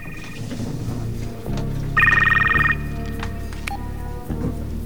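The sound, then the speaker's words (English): A mobile phone in a drawer of an overturned table in a ransacked room gives one short, bright electronic trilling ring lasting under a second, standing out over a steady low rumble and scattered clicks of room noise. “Hearing the telephone, he walks over to an overturned table and reaches into a drawer, pulling out a mobile phone.”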